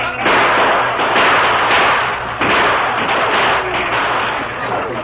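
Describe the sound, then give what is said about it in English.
Dense, continuous crackle of rapid gunshots and thuds, loud, with bursts overlapping steadily throughout, as constant gunfire covers a wagon being pushed into a stockade during an Apache attack; faint voices may be buried beneath the din. “Under cover of constant gunfire, the wagon was hurriedly pushed into the stockade, and the gates were closed.”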